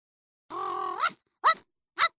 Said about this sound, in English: What's that? Oh, that's my pet dog. That doesn't sound like a dog. Yeah, I know. It's my robot dog.